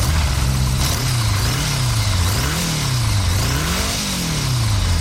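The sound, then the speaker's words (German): A motorcycle engine revs up and down repeatedly, its loud, throaty pitch rising and falling in waves, with no voices. “Dieses Geräusch ist Musik in den Ohren aller, die Motorräder lieben.”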